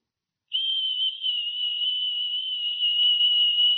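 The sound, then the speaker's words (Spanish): A soft, gentle whistle rises after a moment of silence and holds one steady high pitch, unbroken for over three seconds, with no voices around it. “Un silbo apacible y quieto, y ahí estaba Dios.”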